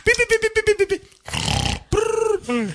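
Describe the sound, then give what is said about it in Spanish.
A comic snoring sound: a burst of quick, pulsing grunts, then a rough, rattling snore, followed by a drawn-out voiced groan that slides down in pitch. Loud, with no talking. “Con el ronquido también ahí.”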